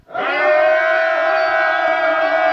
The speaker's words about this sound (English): And when the people shouted with a great shout, the walls of Jericho fell down flat.